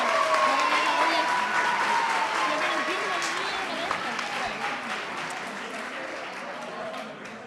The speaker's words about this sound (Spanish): ¡Un aplauso!